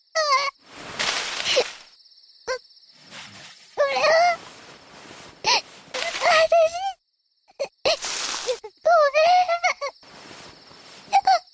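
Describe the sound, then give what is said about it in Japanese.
A child cries alone, sobbing in uneven bursts, wavering whimpering wails broken by breathy gasps and short pauses, moderately loud. “こんなところで一人で泣いてどうしたの？”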